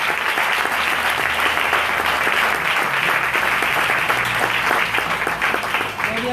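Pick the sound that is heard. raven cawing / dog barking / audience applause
audience applause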